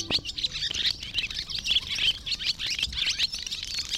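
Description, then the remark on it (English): A barn swallow chatters continuously in quick, twittering bursts, a busy, scratchy stream of high chirps with no pauses and no voices. “If so, the chattering of this swallow probably is not music to your ears.”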